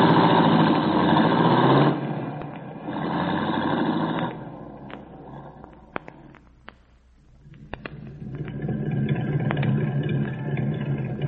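A light blue sports roadster's engine runs loud as the car drives down an alley, easing off for a few seconds midway with a couple of sharp clicks before revving back up. No voices.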